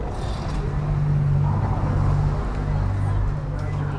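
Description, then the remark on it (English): Steady street traffic on Walnut Street in Springfield, Missouri, heard through a boutique's open doors on a breezy October evening during the city's art walk: engine hum and passing cars, while an indistinct murmur of crowds blends into the continuous outdoor ambience. “A fall breeze blows through the boutique's open doors, which welcomes in the sounds of nearby vehicle traffic and the beeping of a crosswalk.”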